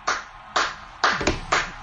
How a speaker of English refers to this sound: She's applauding in her house, by the She's way. She's applauding. Slow clap.